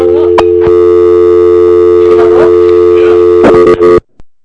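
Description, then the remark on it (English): A loud, steady telephone line tone after the other party hung up a phone call drones for about four seconds, its buzzy pitch unbroken while a few faint clicks and rustles pass over it, then it cuts off abruptly. “He hung up. Either he hung up or I didn't pay the phone bill, but something.”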